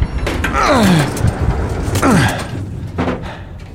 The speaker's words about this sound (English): Open the door. It's stuck. Just pull hard.